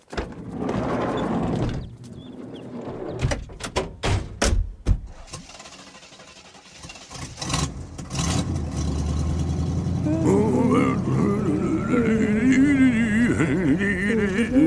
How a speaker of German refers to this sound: Gut gelaunt steigen alle in den Bus.